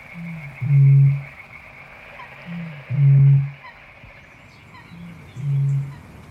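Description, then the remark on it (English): Three deep, hollow booms of a bittern, each a low resonant pulse about half a second long, evenly spaced a couple of seconds apart over a soft marsh background hiss. “And then sank back into a melancholy, throbbing murmur once again. The booming of the bitter.”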